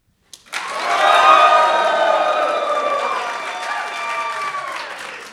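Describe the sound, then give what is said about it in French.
A crowd at a radio poetry event honouring twentieth-century poets breaks into loud cheering and applause, wild shouts and whoops rising over steady clapping, then slowly tapering off while still going strong. “Et d'ailleurs, je vais demander à tous ces gens de se manifester par un cri sauvage d'extase ou de colère ou d'applaudissements, comme ils voudront, pour prouver que je ne dis pas des bêtises à la radio.”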